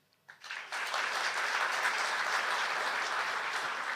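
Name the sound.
audience clapping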